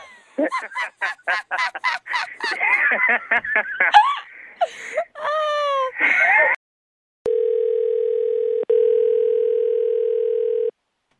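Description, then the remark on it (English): After several seconds of squeaky, laughing vocal sounds, a steady low electronic ring tone sounds on the phone line of a call placed by radio station WBKR, one long unbroken tone with a brief gap partway through, fairly loud. “That was a long ring.”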